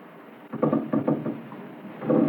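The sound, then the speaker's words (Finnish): Several drawn-out creaks and groans, like strained wood, come in uneven bursts at moderate loudness, with a stronger creak swelling at the end; no one speaks. “Mutta mitä tuo natina on?”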